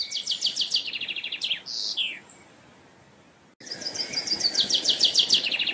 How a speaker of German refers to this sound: es gibt auch Langschläfer, die erst 10 Minuten vor Sonnenaufgang aktiv werden. Zum Beispiel der Buchfink.